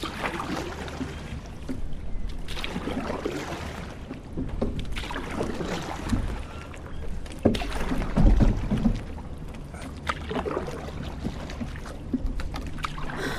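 Paddle strokes splash and slosh through calm water beside a small sailboat with no motor, paddled back across Lake Zurich, Switzerland, in a windless calm; a steady rhythm of wet dips and drips, with faint wind in the background.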